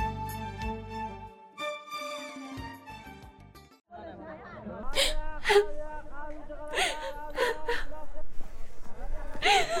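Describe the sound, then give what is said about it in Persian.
A person sobs with sharp, gasping breaths and whimpering cries, following a few seconds of soft sustained musical tones that fade out before the crying begins. “جان پدر گریه نکو، قلب پدرت در نتی.”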